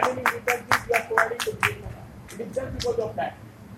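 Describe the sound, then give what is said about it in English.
A run of sharp, evenly spaced hand claps, about four per second, fades briefly. A second, looser burst of clapping follows. A voice murmurs underneath throughout. “But as I say that for the clap, only two hands are required.”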